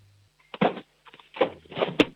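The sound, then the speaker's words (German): A six-year-old boy from the Austrian state of Carinthia bangs a spoon on a cooking pot in a loud, irregular burst of clanging strikes, several clustered hits with a sharp final clang, and no talking. “Du, und dann hätte ich gerne jetzt mal, dass du noch in die Küche läufst und einen Kochtopf holst und einen Löffel und mit dem so richtig draufschlagst auf den Kochtopf.”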